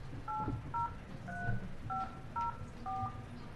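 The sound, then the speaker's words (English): A telephone keypad dials six clear touch-tone beeps in a steady, slightly uneven rhythm to set up a quick conference call, each a short electronic dual tone, with a faint low rumble underneath and no talking. “We're gonna have somebody on the phone here for a quick conference.”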